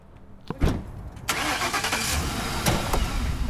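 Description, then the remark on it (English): A couple of sharp clicks, then a car engine catches and roars to life, settling into a steady, loud rumble as the car pulls away, driving to a home in the Bayview district. No one speaks. “We drive over to the woman's home in the Bayview district,”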